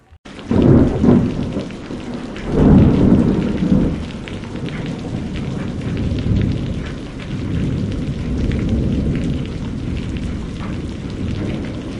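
A heavy, steady downpour hisses throughout while two deep thunder rumbles roll in near the start, the second loud and prolonged before fading back into the pounding rain.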